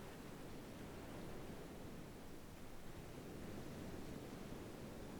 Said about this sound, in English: By turning attention to the sound of the waves coming and going.